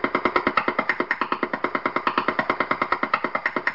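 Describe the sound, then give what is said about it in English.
A Wi-Fi radio signal rendered as sound: a steady, rapid train of harsh buzzing pulses, about eight per second, evenly spaced and fairly loud, with no voices. “This is a Wi-Fi.”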